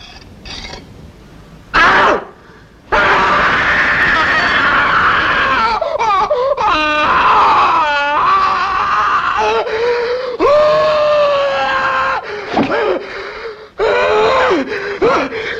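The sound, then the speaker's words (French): A man as Oedipus in Pasolini's 1967 film Oedipus Rex howls in pain as he puts out his own eyes, loud, his anguished cries wavering and breaking over about fifteen seconds, with ragged gasps and brief pauses between them and no speech. “Voici l'Œdipe roi, donc de Pasolini en 1967, c'est le moment en plus où Œdipe se crève les yeux et hurle de douleur.”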